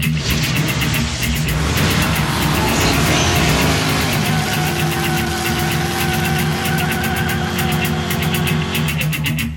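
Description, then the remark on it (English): Loud race car engines, one of them a Nova, roar and rev continuously at the start of a grudge-match race, pitch climbing and surging in the middle before settling into a steady growl, with no talking. “Drivers, start your engines.”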